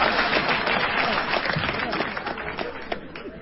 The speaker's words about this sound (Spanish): ¿Qué aplauden?